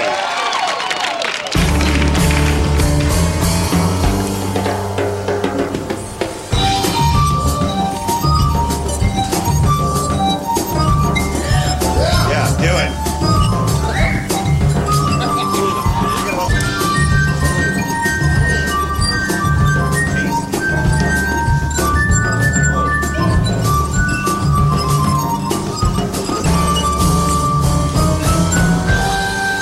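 Musical glasses played with water in a 'Water Symphony' act on a show ring out in sustained, shimmering tones, layering bright high notes over fuller chords in a continuous, flowing melody that stays loud throughout, with no talking.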